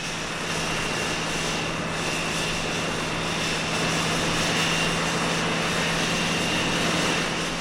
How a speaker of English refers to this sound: We're on a Navy aircraft carrier off the coast of Vietnam. Its flight deck shrieks with jets, impatient for launch.